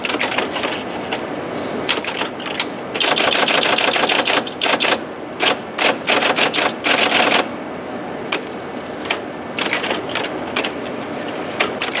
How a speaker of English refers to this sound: But with all the computers available, the most enjoyable exhibit for me was the IBM 029 Key Punch.